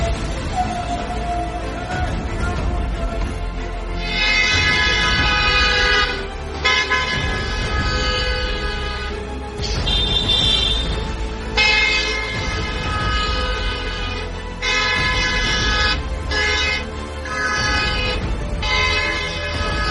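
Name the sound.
car horn honking repeatedly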